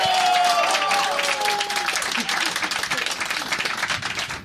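A crowd bursts into sustained applause, dense clapping filling the space with some cheering voices early on, gradually thinning slightly toward the end.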